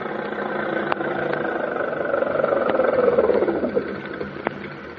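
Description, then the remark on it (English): A car engine idles steadily, its low rumbling hum swelling slightly in the middle before settling back, with a few faint clicks over it and no voices. “Hey there! Stop that car, huh?”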